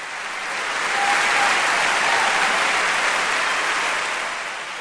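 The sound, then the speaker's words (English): A sustained burst of audience applause thanking President Bush for his support of Israel, dense and steady clapping from a large crowd that swells in quickly, holds loud for several seconds, then tapers slightly at the end. “Nobody gets applause like the president.”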